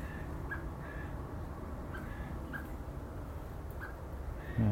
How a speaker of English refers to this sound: Blackbird's returned to the garden.